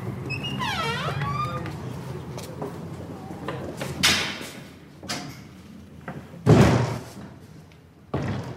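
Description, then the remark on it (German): An open door into the stairwell of a residential building creaks open with a squeaky, wavering hinge, followed by a couple of heavy thuds and a loud slam as it shuts, with faint background murmur in between. “Sollen wir das machen? Die Tür ist ja offen.”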